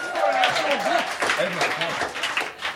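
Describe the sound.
An audience applauds steadily with dense clapping as the first reader of a live show is introduced, while voices whoop and call out over it, sustained for a few seconds before easing slightly.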